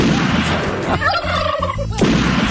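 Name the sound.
wild turkey gobbling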